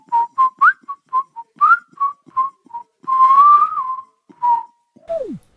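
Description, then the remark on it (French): A clear whistled melody of short tonal notes near one pitch, part of a song's instrumental played on the radio station Prune 92 FM, then a long sustained whistle with slight wavering, a few more notes, and a final downward-sliding glide; prominent and alone. “Vous êtes dans Tumulte, ce flow incroyable et cet instru très siffloté s'inscrit parfaitement dans l'univers de cette jeune fille”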